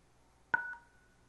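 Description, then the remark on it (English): A single short beep from a phone keypad as the pound (hash) key is pressed to finish a Microsoft sign-in verification phone call, a clear two-tone DTMF chirp that sounds once over near silence and fades quickly. “And then you see I get signed in as soon as I hit hash on the phone call.”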